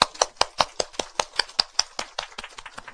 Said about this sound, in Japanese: 先週に来てくださったので、歓迎の拍手をしたいと思います。